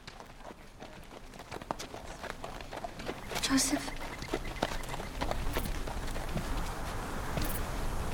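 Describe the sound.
Donkey hooves clip-clop in a steady walking rhythm, fairly loud, as the donkey carries a rider, while a person briefly speaks over the plodding steps.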